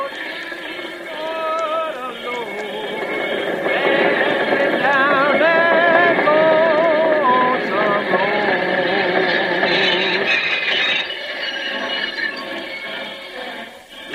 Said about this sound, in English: Good gosh, who's this now? A freight train half a mile long and coming right toward me.